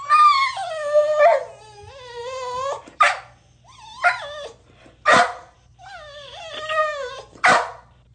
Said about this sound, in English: No, that dog's playing with another dog. The other dog has a toy, and he gets that frustrated, like, playful bark. I want it.